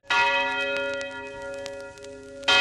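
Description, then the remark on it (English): A large bell in Johannesburg, South Africa, recorded in the 1940s and rung at 9 o'clock, tolls twice, each loud strike followed by a long, resonant hum that lingers and slowly fades before the next clang. No voices are heard. “At 9 o'clock, a big bell would ring, dong, dong, and you knew that was for you, if you were black, to get out of the white city.”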